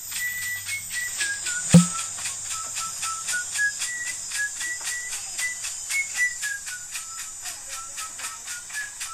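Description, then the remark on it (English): A man whistles a slow, wavering melody over a quiet, hissy music backing, with one sharp thump near the start; no one talks. “that song, when I first heard it, I was like, I feel like that shit gonna like scare me, type shit, because it was like some guy whistling”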